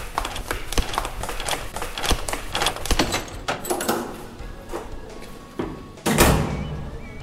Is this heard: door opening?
yes